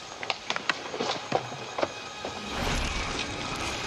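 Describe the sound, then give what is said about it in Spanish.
Sharp, irregular cracks and snaps of branches breaking close by in the jungle, five or six in quick succession, followed by a swelling rustle of leaves and undergrowth. No voices. “Podía oír un ruido de ramas rompiéndose cerca.”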